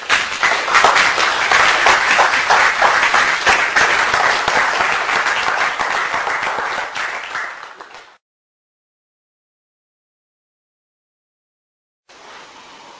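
An audience bursts into a sustained round of applause, dense overlapping claps holding steady for about eight seconds before cutting off into silence, then a brief return of clapping near the end.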